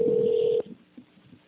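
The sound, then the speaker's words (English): A ringing telephone sounds steadily for about half a second, then cuts off abruptly, leaving faint scattered beeps and low background noise behind it. “That sounds like a phone ringing somewhere.”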